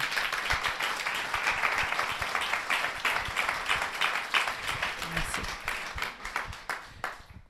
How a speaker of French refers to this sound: On peut l'applaudir.